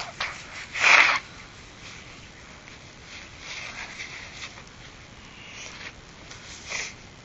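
human body sound, child blowing nose

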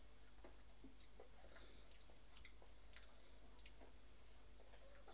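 household object, clock ticking

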